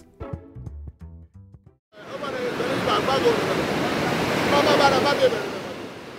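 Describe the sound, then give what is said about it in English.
A brief moment of speech gives way to the broad, steady roar of ocean waves washing ashore along the coast of Ghana, rolling waterlogged discarded clothes, loud, swelling slightly as the surf keeps churning. “Waterlogged clothes roll like carcasses in the waves along the coast of Ghana.”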